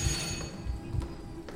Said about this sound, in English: at 6:50 p.m. Having rang the doorbell,